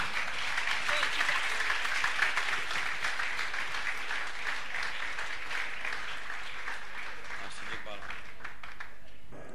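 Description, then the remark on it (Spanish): A large church audience applauds the Lord steadily during a service, a dense, sustained wash of clapping from many hands that holds at an even level for several seconds before thinning slightly toward the end. “¿Qué le parece si le da un fuerte aplauso, Señor?”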